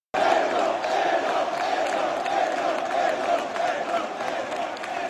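About 1,300 Parma fans at the Bentegodi stadium chant the name of goalkeeper Edoardo Caorvi in unison after his first Serie A start. The chant is a loud, sustained roar of many voices with a steady rhythmic swell, continuing unbroken for several seconds.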